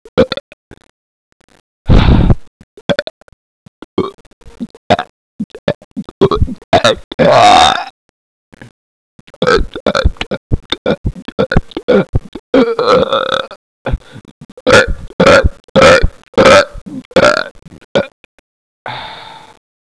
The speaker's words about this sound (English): Know what? If I belch one more time, I'm gonna puke.